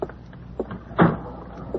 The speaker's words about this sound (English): Shut the door.